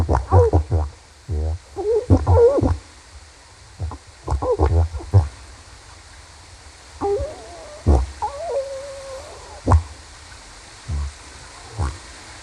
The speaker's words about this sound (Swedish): Vi kan väl ta och lyssna på gråsäl. Inspelat vid Svenska högarna.